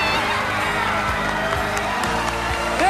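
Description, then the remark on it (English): A large arena crowd at a rink cheers and applauds loudly at the finish of a pair's performance routine, a dense, sustained roar of many voices with scattered whoops and shouts rising over it throughout. “Unbelievable finish to an incredible routine, and they've won this crowd over.”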